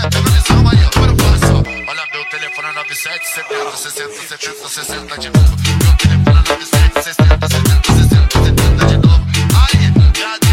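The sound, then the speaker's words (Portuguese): A telephone rings for about two seconds while the thumping music briefly drops away, then the loud, bass-heavy beat comes back in and carries on. “Alguém ligou pra mim.”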